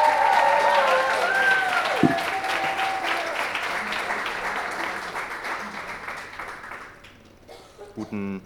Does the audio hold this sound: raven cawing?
no